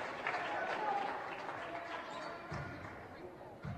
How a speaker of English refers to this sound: We'll see if Bosch checks out after that being his fourth. Logan Fimler is checking in. Bosch gets a round of applause from the crowd.